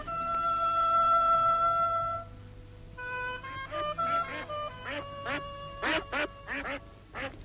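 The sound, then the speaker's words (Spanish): Geese honk and quack loudly, first a long drawn-out honk, then a rapid series of short, choppy calls from several birds overlapping. “Y ocurrió que el rey de aquellas tierras, que tenía 60 gansos y necesitaba una pastora que se los cuidase, le preguntó si quería encargarse de los gansos, a lo que ella accedió.”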